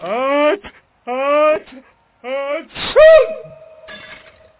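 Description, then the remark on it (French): A president's powerful sneeze: three rising, drawn-out vocal gasps build up to one loud, explosive sneeze with a noisy burst, followed by a fading voiced tail and faint crackling. “L'éternuement est si puissant que les lunettes du premier ministre se fendillent et que la chancelière en est toute décoiffée.”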